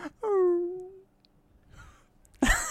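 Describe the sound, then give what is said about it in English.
A person imitates a sad, drawn-out dog howl, one loud wavering tone that slides downward and fades after about a second, followed by quiet shuffling and a sudden sharp burst of noise. “It's a sad dog, because it's the last one.”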